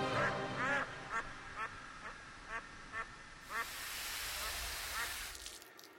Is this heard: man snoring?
no